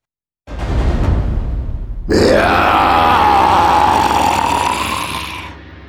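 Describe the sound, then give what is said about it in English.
A voice imitates an angry dragon's roar: a low, rough grunting growl rises into a long, loud, strained roar with a sustained harsh tone, lasting several seconds before tapering off. “He showed his terrible teeth and he gave a terrible roar.”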